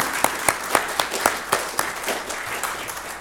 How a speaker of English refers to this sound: So, give yourselves a big clap. And let's give God an even bigger clap, because it's all his work.